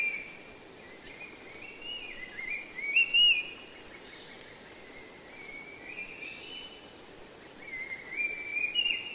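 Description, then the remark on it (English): A steady, high insect drone fills a forest soundscape on Bhutan Island in Indonesia while forest birds sing short, bright phrases over it, with the clearest calls near the middle and again at the end. “Those are forest birds on Bhutan Island in Indonesia.”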